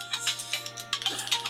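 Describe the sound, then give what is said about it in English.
A phone rings with an incoming call from Hawaii, its electronic warbling tone pulsing in quick repeated bursts over a steady low hum, fairly quiet and with no voices. “It was a phone call coming in from Hawaii, but I don't...”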